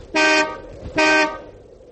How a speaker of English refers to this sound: Guess I'll honk and let them know I'm here.